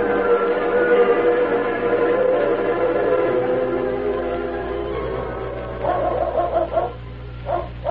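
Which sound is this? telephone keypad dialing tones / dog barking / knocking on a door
dog barking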